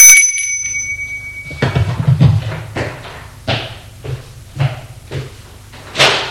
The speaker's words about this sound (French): Elle sonne à la porte.